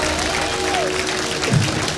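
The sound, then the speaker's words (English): Steady audience applause at a live show fills the whole clip as the host urges the crowd to keep it going, a dense, even wash of clapping with a brief swell of cheering near the end. “Keep it going for Lindsay, everybody. Make some noise for her.”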